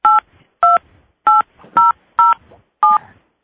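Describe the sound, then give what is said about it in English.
A run of six short, loud keypad beeps, each a dual-pitched touch tone, pressed at a steady, slightly uneven pace with brief silences between them, as someone enters a PIN on a phone to start recording a conference call. “Please enter your PIN followed by pound.”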